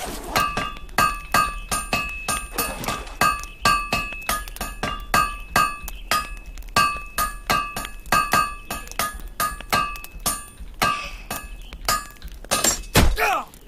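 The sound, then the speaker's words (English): A hammer strikes over and over in a quick, steady rhythm: dozens of loud thunking impacts with a faint metallic ring, ending in one heavier, deeper thud. “I keep hitting myself with the hammer.”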